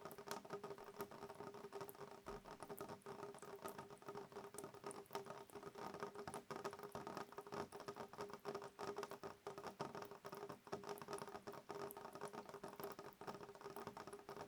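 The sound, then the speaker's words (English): Raindrops patter steadily against a window as the rain starts, a dense, even spray of tiny taps that never lets up. The sound is soft, with no voices. “The chorus of pitter-patter as each individual sound of each individual raindrop gently strikes against the window.”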